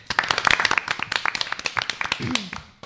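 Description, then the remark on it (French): A group of seven female members of a radio project applauds themselves, a dense, uneven patter of hand claps lasting a few seconds, with a brief voice rising in near the end. “On peut s'applaudir.”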